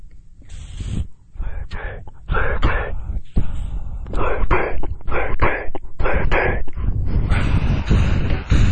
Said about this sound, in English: This next track is by …, and it's called …